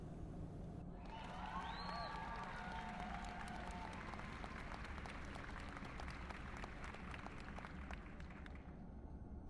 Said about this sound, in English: That's when I noticed the applause.